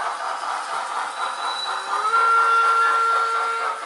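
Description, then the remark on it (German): A model railway train runs through a miniature landscape of track, station and scenery in Burgdorf, with detailed sound effects: steady rail noise and a hissing, chuffing sound, while a thin steam-whistle tone rises and holds in the second half; fairly loud, no talking. “Detailgetreue mit Soundeffekt, Gleis, Bahnhof, Landschaften. So fahren Modelleisenbahnen durch eine Miniaturwelt.”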